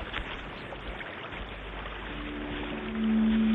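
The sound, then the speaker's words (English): Steady rushing water at a weir at night, mixed with a hiss of radio static. A low hum rises and grows louder near the end, and no one speaks. “The voice performed for us just for a few seconds and then disappeared, leaving us with the fog of static and water once more.”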